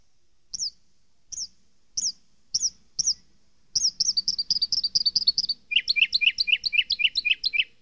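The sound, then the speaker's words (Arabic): A small bird building itself a new nest chirps alone: five spaced, high chirps, then a rapid run of quick notes that shifts into a lower, faster trill of sharp tweets toward the end. “إنه يبني لنفسه عشا جديدا.”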